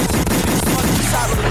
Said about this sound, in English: Gunshot.